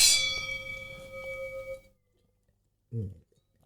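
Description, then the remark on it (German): Glasses clink together in a toast, a single bright ringing chime that decays over about two seconds, followed by silence and a brief low murmur. “Ich freue mich ganz meinerseits. Cheers. Prost.”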